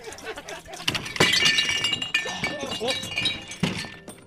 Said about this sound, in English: Oh, sorry about that. Fell off my stool.